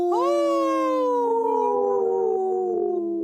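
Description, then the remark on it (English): Three people howl together in imitation of wolves on Native Roots Radio, a loud, sustained, wavering chorus that rises at the start and slowly sags over about three seconds. “Wow, us three haven't howled in, together like that in a long time”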